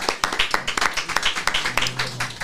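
A small group claps steadily for a couple of seconds after a stand-up performance, the sharp overlapping hand claps forming a brisk, irregular patter at moderate loudness, with faint voices murmuring underneath.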